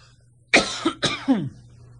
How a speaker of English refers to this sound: You can do that while I'm coughing.